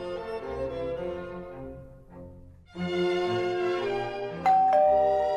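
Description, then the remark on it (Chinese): A doorbell rings with a melodic chime, its tones sustained and ringing out, followed by a second burst of chimes with a bright, sharp strike near the end; no one speaks. “这时候门铃响了，我开门一看，是一个老头，穿着水手的衣服，弯着腰，还不停地咳嗽。”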